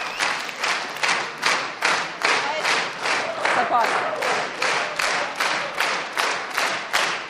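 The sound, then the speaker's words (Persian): An audience claps together in a steady, rhythmic beat, roughly two claps per second, loud and sustained for several seconds with a faint crowd murmur underneath. “قطعاً لایق این تشویق ها خود شما هستین.”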